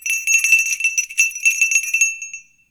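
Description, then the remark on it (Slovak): A small hand bell shaken rapidly for about two seconds, its bright, high ringing clanging in quick repeated strokes before trailing off, rung to summon a servant. Fairly loud, with no voices. “Zvonili ste, pán prorok?”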